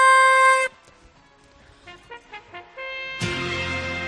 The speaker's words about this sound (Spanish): Suena la chifla para indicar que llega el pregón.